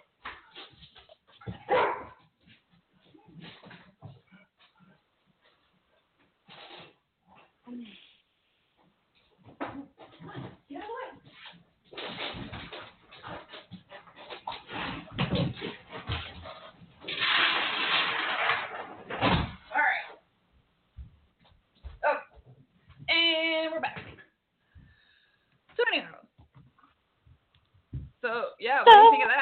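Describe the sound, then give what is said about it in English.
Dogs bark and whine in scattered bursts, with a door opening and rattling to let the dogs out, amid shuffling movement noises and a muffled voice in between. “All right, hang on. I got to let them out.”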